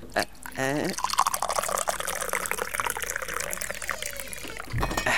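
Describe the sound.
Tea pours into a glass in a steady, close splashing stream lasting several seconds, starting just after a brief voice at the beginning and stopping abruptly near the end.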